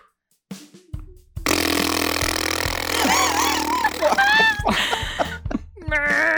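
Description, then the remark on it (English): A long, loud fart blares for several seconds, rumbling and buzzing with a wavering pitch before breaking into a few shorter squeaky bursts near the end. “People fart at yoga.”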